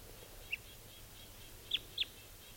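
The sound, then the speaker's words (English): Red crossbill type 2 alternate calls: one brief, thin chip followed by two sharper downslurred notes in quick succession, clear above a quiet, low outdoor hum. “There's the alternate type 2 call.”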